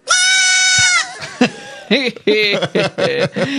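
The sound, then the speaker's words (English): A baby goat, urged on by a person to give it all it has got, lets out one long, high, quavering bleat lasting about a second, followed by a run of short, choppy voiced sounds that resemble people talking or chuckling. “And if you thought that yelling and screaming goats were fun when they were full grown, listen to this baby goat.”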